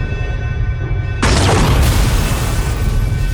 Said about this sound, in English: The armored bridge doors were no more a barrier to Haddock's cannon than any other obstacle. As the fumes of the explosion dissipated, Artemis stepped into the control chamber of the Volans Batavus.